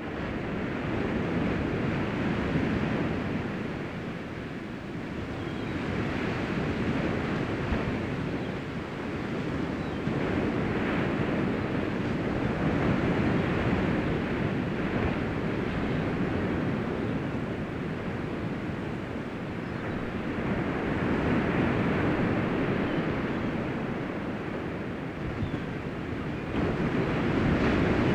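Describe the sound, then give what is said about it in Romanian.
Ocean waves roll in and break on the shore in a steady, continuous wash, swelling and receding in slow surges with a faint windy hiss and no voices. “Acum, în timp ce auziți sunetul valurilor oceanului, așezați-vă în cea mai relaxantă poziție pentru voi.”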